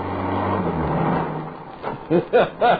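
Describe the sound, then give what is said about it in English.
A car engine rumbles steadily for a second or so as the car drives along a highway toward San Bernardino, then fades, and a brief voice or vocal sounds come in over the last second. “A couple of minutes later, we were in the car. We rolled through the gates.”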